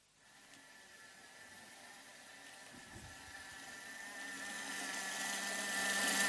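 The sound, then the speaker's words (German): Water pours steadily into a bowl over dried plums, a continuous splashing hiss that grows gradually louder and brighter over several seconds, with no one talking. “Ich mache jetzt über die Trockenpflaumen Wasser.”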